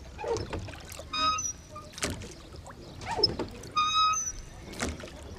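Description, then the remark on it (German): Oars dip and pull through water in a steady rhythm, several strokes with splashing and creaking wooden squeaks, as a rowing boat is rowed on the old city moat beside the city wall in Augsburg, Germany, with no one talking. “Direkt am alten Stadtgraben und der Stadtmauer gelegen, gibt es hier die Möglichkeit, unter alten Bäumen am Ufer zu sitzen oder seine Liebste mit kraftvollen Ruderschlägen übers Wasser zu chauffieren.”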